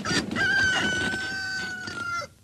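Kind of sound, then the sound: bird, rooster crowing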